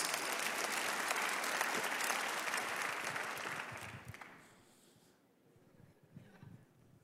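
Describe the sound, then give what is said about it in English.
An audience claps steadily for about four seconds, a dense wash of many hands, then the applause fades out quickly into quiet with a few scattered sounds. “Yeah, you can clap.”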